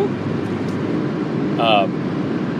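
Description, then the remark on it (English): A steady low rumble of passing road traffic runs throughout, swelling slightly toward the end, with a brief high tonal squeal cutting through midway. “Sorry, there was a little traffic.”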